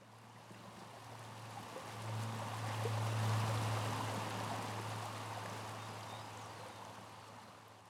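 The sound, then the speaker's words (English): Flowing river water makes a steady, continuous rushing wash that swells a little midway through, with a low, constant hum running underneath and no voices. “But it's this the soul of the river, if you want to think about it that way.”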